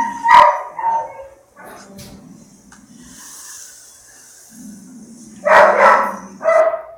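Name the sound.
dog growling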